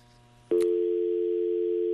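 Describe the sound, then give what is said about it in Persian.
A low hum gives way, after a sharp click, to a loud, steady telephone dial tone that holds unbroken to the end, clear with no talking, after the first caller's phone call is disconnected. “تلفن نفر اول قطع شد.”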